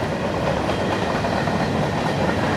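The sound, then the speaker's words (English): A train rumbles past on a railroad track about 50 to 60 feet away, beyond a creek and a stand of trees, while the recordist is out running; a steady, dense, loud roar of wheels and cars with faint rhythmic clatter, continuing without pause and with no voices. “I guess I'll go ahead and cut this mic off so you don't have to listen to this train the whole time that it's going past me, and I'll pick it up after the train goes by.”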